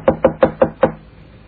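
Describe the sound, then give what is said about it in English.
Five firm knocks on a wooden hotel room door in a quick, even rhythm, fairly loud, followed by a short stretch of quiet room tone with no one speaking. “Knock again.”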